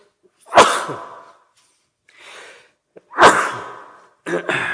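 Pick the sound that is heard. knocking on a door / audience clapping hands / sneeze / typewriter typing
sneeze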